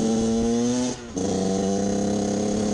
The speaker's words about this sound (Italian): Accende il booster e schizza come un pazzo lasciandosi dietro una scia di fumo nero denso.